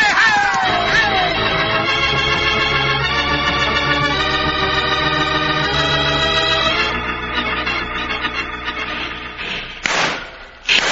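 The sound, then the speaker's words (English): A herd of cattle stampedes through a pass in a loud, continuous rumble of pounding hooves and thuds, with a noisy burst near the end and no talking. “We can't see nothing with that herd on stampede.”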